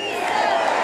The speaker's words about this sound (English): They clap and chant and sing the national anthem. Yet this crowd's a small fraction of the hundreds of thousands who cheered on Guaido more than 3 months ago when he launched his US-backed effort to assume power as Venezuela's interim president.